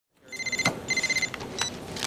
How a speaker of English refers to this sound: But before he can say either, her cell phone rings.